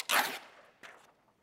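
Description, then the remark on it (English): A new sheet of paper is handled: a sharp, crisp rustle followed a moment later by a second, quieter crinkle, with no voices. “I'm going to try a new piece of paper because I don't like this piece of paper.”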